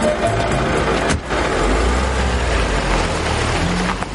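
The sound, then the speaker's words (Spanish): A taxi's engine rumbles steadily as it rolls along a dirt road between vegetation-covered fences of single-family houses, with a broad crackling, gritty noise over the low hum of tires on the rough dirt surface. “El coche circula por un camino de tierra entre vallas cubiertas por vegetación de casas unifamiliares.”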